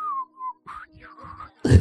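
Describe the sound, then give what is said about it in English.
A person whistles a brief tune: a steady note, then a few wavering, sliding pitches, ending in an abrupt loud burst of noise. “And you just show up, whistling and holding in your hands.”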